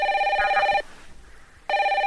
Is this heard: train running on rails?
no